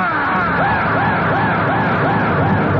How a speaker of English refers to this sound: And then, just because of the sheer exuberant moment and the realization of my place in history, I scream the fierce cry of the avenging Hunnish hordes.